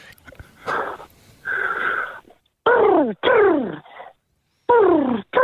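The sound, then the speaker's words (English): A person imitates an Australian pigeon call: a couple of soft, breathy hooting tones, then three loud, falling whooping coos repeated in quick succession with short pauses between. “What animal will you be mimicking today for us? I'll give a go with a pigeon.”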